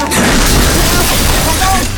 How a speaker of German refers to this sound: Zahllose Balken und Holzlatten krachten hinab. Alle neu gebauten Wände waren eingestürzt.